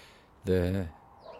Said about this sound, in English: Who's that? Noisy ducks.